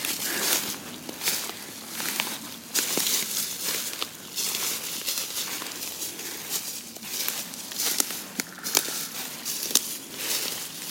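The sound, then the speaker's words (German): Footsteps crunch and rustle through deep fallen leaves in the Windener Wald forest in a steady walking rhythm, with dry crackling bursts at each step and no talking. “So, wir kämpfen uns hier weiter durch den Windener Wald, durchs hohe Laub, was hier überall verteilt liegt.”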